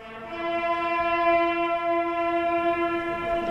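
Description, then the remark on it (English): Buglers beneath the Menin Gate monument in Ypres, Belgium, honoring fallen World War I soldiers, sound a single long, steady note, bright and brassy with rich overtones, held firmly for about three seconds at an even loudness, with no voices. “Quite often you'll choke up and cry when you hear that, the bugles.”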